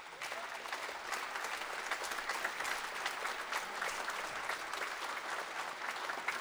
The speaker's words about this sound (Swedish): Så är det dags att bjuda in våra gäster, eller de är inbjudna sen för, men att be dem komma in på scenen. Claes Krona som spelar piano och kapellmästare. En applåd.